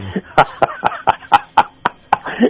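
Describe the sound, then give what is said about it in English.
A person coughs in a quick run of about nine short, harsh bursts, evenly spaced, with no talking in between. “So I'm probably going to be using my elbow a few times.”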